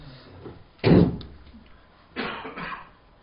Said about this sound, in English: I cough and everyone is so... everyone else coughs.